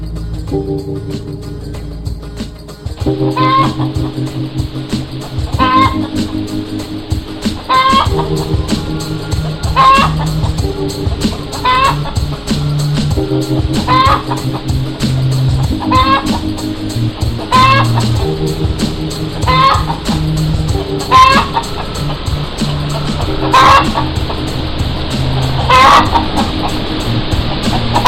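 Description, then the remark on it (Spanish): Short hen clucks repeat at a steady rhythm, roughly every two seconds, over a loud, continuous musical backing that runs throughout, with no talking. “El vicio de la gallina.”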